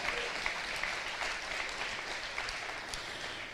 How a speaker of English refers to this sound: Yeah, thank you, Pastor Joel. Can we clap again for Pastor Joel?